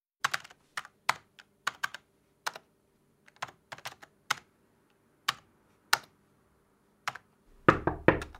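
Someone types an article on a computer keyboard, sharp clicky keystrokes in irregular bursts with short pauses, ending in a louder, heavier clatter of keys. No one speaks.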